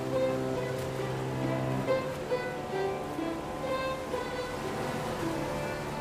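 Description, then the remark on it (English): Steady ocean surf washes and rushes continuously beneath sustained orchestral music played by an orchestra on the beach, the broad hiss of breaking waves blending with held string and wind tones throughout, as musicians splash and jump amongst the rolling waves. “In the water, a grinning Olivia bites her lower lip as she splashes.”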